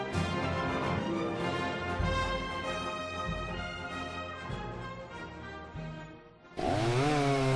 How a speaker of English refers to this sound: Want a chainsaw that starts easy, runs smooth, and provides years of dependable performance? You want an Echo chainsaw, built to tackle the toughest jobs.